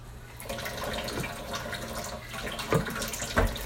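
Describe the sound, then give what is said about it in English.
Water trickles steadily from a tap, with a few separate drips plopping at irregular moments over the steady flow. There is no talking. “Does that sound make you have to pee? Hey, geesh. The drippy drip sound.”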